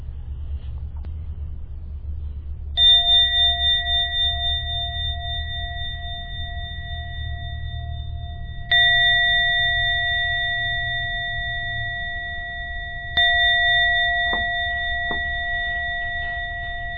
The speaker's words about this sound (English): Now ring the bell 3 times. The end of that third, at the end of the third chime, please come out of your meditation.